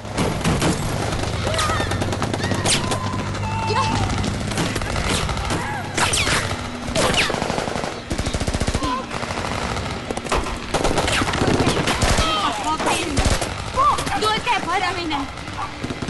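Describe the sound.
Sudden rapid bursts of gunfire crackle repeatedly amid a chaotic, noisy scene as people scatter and run for cover, with dense overlapping shots, shouting voices and a low rumbling hum underneath.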